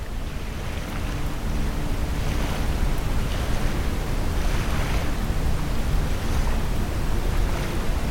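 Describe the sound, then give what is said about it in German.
Waves of a calm ocean wash ashore at sunset in a steady, hissing roar, with soft surges swelling every two seconds or so. No voices are heard. “Das Rauschen der Wellen umgibt dich.”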